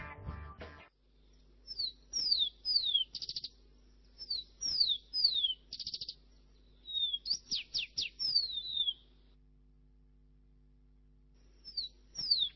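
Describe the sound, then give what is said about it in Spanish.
A bird sings clear, sweet phrases of rapid descending whistles, repeated in bursts with short pauses, prominent against a quiet background with a low hum. “Ahora pero sí. Este es pura armonía, pura armonía.”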